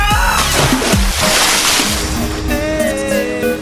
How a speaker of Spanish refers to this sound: Y ya si no aguantan más, se pegan su chapuzón y al agua, pato.